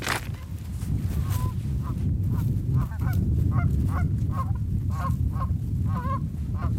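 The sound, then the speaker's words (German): Canada geese, the first arrivals of spring, just arrived out in the wilderness, honking repeatedly in overlapping calls, a steady chorus of nasal honks over a low rumbling background. “Kanada-Gänse, die ersten Frühlingsboten, die gerade angekommen sind, hier draußen in der Einsamkeit.”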